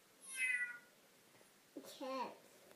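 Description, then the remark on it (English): A person voices two meow-like cries, a high thin mew followed a second later by a lower, drawn-out meow, both fairly loud over a quiet background. “Meow. A cat.”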